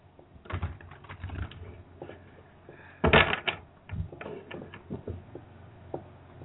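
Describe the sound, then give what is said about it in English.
Crisp card shuffling: scattered papery clicks and flicks, then a dense riffling burst midway, followed by lighter irregular taps as the cards are handled again. No one speaks. “I'm actually shuffling your cards as we speak.”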